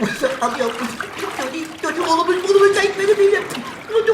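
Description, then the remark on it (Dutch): Water sloshes and splashes in a cave at high water as people use an empty chest as a float to get out, while a voice strains and groans over it, the splashing continuing unevenly underneath the vocal sounds. “En daar kwam die lege kist goed van pas, want het was inmiddels hoogwater geworden.”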